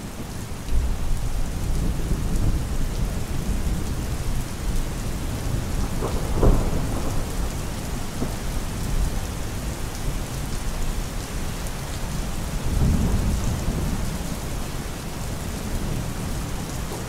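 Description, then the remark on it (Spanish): Steady rain pours down in a dense, continuous hiss, with low rumbles of thunder rolling in around the middle and again near the end. No voices. “No sabe que un día de 1967, poco antes de que las gotas dejen de sonar en sus oídos, volverá a decirse, algún día acabará el invierno, llueve.”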